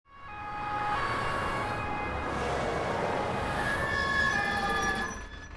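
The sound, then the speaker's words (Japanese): An ambulance siren, for a man with an injured leg, wails steadily over road noise, its tone shifting as it grows slightly louder, as if drawing nearer, with no voices present. “救急車を待っている間、そのことが頭を離れなかった。”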